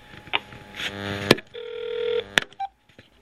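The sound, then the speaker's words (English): Telephone dialing tones from redialing a dropped call: a couple of sustained electronic tones broken by sharp clicks, then a brief higher beep, with no talking. “Oh, I think I lost her. We may try again, but in the meantime...”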